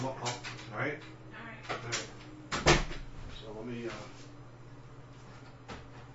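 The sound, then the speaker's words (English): A door shuts with one sharp thud partway through, set among quieter rustling and handling noises, with a soft low hum and faint talking in the background. “I closed the door and I moved the center antenna on the router and pointed it to Fran”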